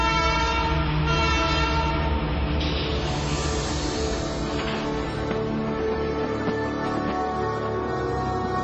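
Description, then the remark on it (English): A steam train's horn blares steadily and loudly over the low rumble of cars rolling on the rails, sustained throughout with no voices. “In 1886, the Canadian Pacific Railroad reached British Columbia and the Kicking Horse Valley.”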